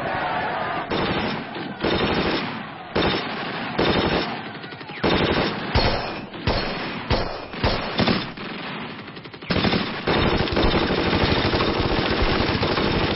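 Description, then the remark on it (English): Loud, sustained machine gun fire against a Japanese bayonet charge in the Battle of Tanaru River rattles in rapid bursts, with brief pauses between volleys before a long continuous stretch of shooting. No voices are heard. “The Japanese are so confident in their superiority that they charge with their bayonets, just as in World War I, in Verdun, against machine gun fire.”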